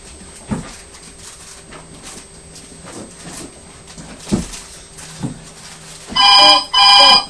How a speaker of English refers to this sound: Oh, there's the telephone there. Can you see who it is?